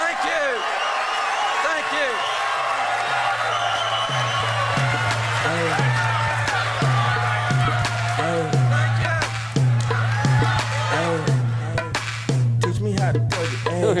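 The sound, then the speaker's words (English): An excited crowd at Doug Jones' election victory rally at his headquarters, many voices shouting and chattering over one another, loud, while a DJ plays dance music with a steady thumping bass beat pulsing underneath. “The crowd there was so excited that C-SPAN caught the DJ playing Jones off the stage”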